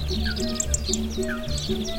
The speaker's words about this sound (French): Et je peux vous dire que les poissons et autres animaux ne s'en plaignent pas. Bien au contraire. Surtout les oiseaux que l'on entend discuter à longueur de journée.